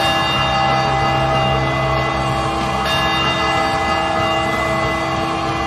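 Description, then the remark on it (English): Loud, celebratory bells ring continuously for several seconds after a San Diego Padres win, their overlapping tones sustained and shimmering, with no voices present. “I forgot to give all y'all the Padres wind bells after tonight.”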